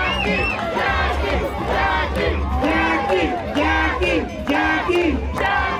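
A dense crowd cheers and shouts continuously, with many overlapping voices rising in loud, excited yells over a steady low rumble, sustained throughout without pause.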